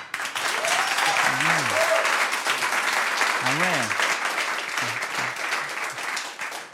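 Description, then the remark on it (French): An audience claps steadily and loudly for the full stretch, answering by applause the question whether they are doing well, a dense unbroken patter, while a few voices call out briefly over the applause. “Donc, par applaudissement, est-ce que vous allez bien?”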